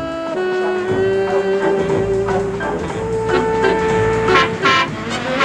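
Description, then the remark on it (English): A black car speeds past a woman walking into the road by the Marina Motel, amid steady road noise, with a long, sustained horn tone sounding throughout and brief rushing surges near the end as more cars pass. “A black car shoots right past her.”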